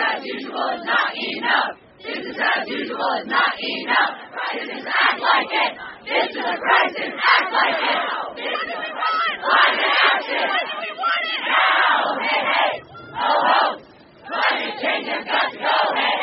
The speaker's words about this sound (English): students holding signs that said, "Denial is not a policy," and "Raise your voice, not the sea," chanted today outside the White House.